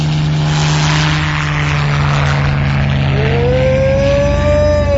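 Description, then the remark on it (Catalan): A loud engine roars steadily, then its pitch climbs sharply in the last couple of seconds as it revs up and accelerates away, with no voices over it. “Motors a punt, Gemma? Sí. Rampa de llançament preparada? Tot a punt. Torre de control a punt?”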